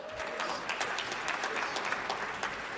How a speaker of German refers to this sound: Er kommt lustigerweise genau aus meinem Heimatdekanat. Und da klatschen welche. Gibt es denn jemanden, der aus Kempten hierher gekommen ist?